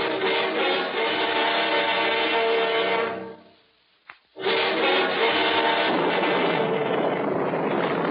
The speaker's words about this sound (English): Listen to her blow, Johnny. Listen, we've got to go below. Below? And miss a storm like this?